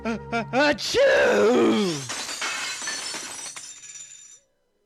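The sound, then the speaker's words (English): Glass shatters loudly after a few quick vocal-like bursts, then shards tinkle and ring out in a bright, scattering cascade that slowly fades over several seconds; part of The Sounds of Glass, made for the glass sculptural exhibit at the UU Gallery. “for the exhibit, The Sounds of Glass, which is designed to enhance the mood of the exhibition.”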